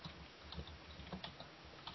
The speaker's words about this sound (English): What are you typing? Because you always type really loud. This is my keyboard.